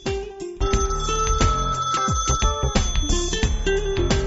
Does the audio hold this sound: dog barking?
no